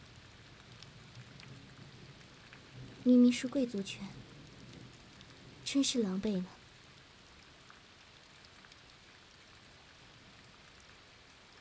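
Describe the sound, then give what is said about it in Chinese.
Steady rain hisses evenly throughout at a moderate level, with a faint low rumble of thunder beneath it. A person speaks two short phrases over the downpour near the middle. “听见打雷下雨，依旧会因为回忆起那些而不自主的颤抖呢。”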